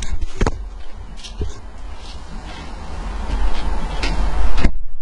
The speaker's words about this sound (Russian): Сейчас я закрою дверь и окно, пока оно просирается.